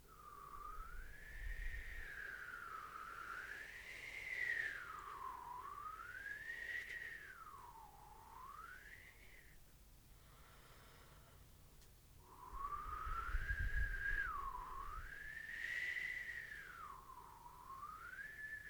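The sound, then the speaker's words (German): A person whistles slow, wavering glides that swoop up and down, imitating the wind whistling at the sea, in two long unbroken phrases separated by a brief pause, soft and steady with no talking. “Wir stellen uns vor, wir sind am Meer und der Wind pfeift. Dieses Windpfeifen ahmen wir nach.”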